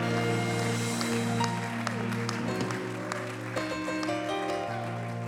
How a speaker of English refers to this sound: Come on, one more time. Why don't you clap your hands? Una vez más, hay que aplaudir nuestras manos. And give God a shout of praise all over the house. Que dar un grito a la casa de Dios.